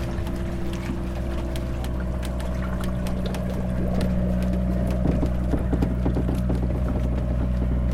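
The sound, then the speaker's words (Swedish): Water bubbles and gurgles steadily in irregular bursts over a constant low mechanical drone, growing slightly louder midway, as a boat is lowered stern first down a rail track into the water. No voices present. “Och rodret går in, den går in med aktern först, går ner med aktern först. Här bubblar det som muntert.”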